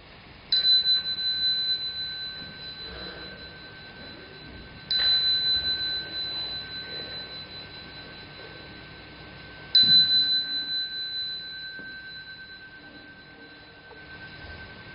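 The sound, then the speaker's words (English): A meditation bell is struck three times to start a meditation session, roughly five seconds apart, each clear metallic tone ringing out and slowly fading, with no talking. “Okay, we can start now. I will ring the bell.”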